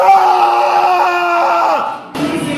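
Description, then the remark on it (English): A person imitates the fierce, strained scream of a basketball player, one loud sustained yell held for about two seconds that then breaks off into a short, rough, noisy burst. “Scream.”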